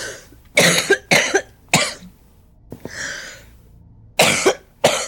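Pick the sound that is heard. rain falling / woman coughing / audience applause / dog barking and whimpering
woman coughing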